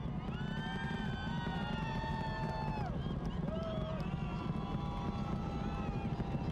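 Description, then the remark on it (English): A rocket engine roars steadily during launch ascent, about 3 miles in altitude at more than 1,200 miles per hour, nearly Mach 2, approaching max Q; a dense, continuous low rumble that never lets up, with faint radio-like voices drifting over it. “That sound, that engine sound. I want to make it my ringtone.”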